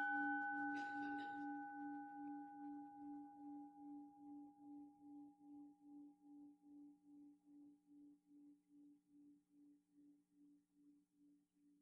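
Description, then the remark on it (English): A single meditation bell is struck once, its bright strike giving way to a long humming tone with a slow, steady pulsing beat that gradually fades toward silence. “So, if you hear the sound of the bell, notice what happens as you follow it into silence.”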